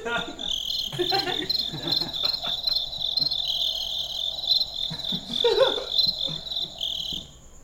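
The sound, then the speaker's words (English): A dense, steady chorus of cricket sounds from a noise box trills loudly and continuously, with some faint rustling beneath, then cuts off abruptly near the end as it is shut off. “hang on, I got to shut down these crickets.”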